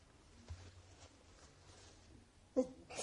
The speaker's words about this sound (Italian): C'era un po' di spiffero che veniva dalla borsa e mi è venuto uno starnuto.